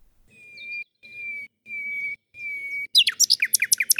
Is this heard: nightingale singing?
yes